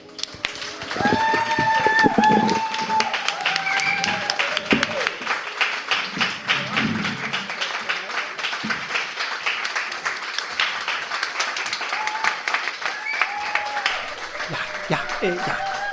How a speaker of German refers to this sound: Ja, das ging jetzt noch stundenlang so weiter mit dem Applaus. Sie haben es gehört, das Publikum war quasi hin und weg.